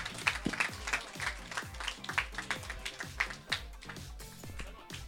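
Applause from a group fills the whole stretch: a dense, steady patter of many hands clapping at once, fairly loud and with no voices on top. The applause is for the youngest member of a karate team, who won first place in kata.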